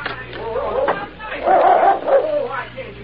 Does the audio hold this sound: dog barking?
yes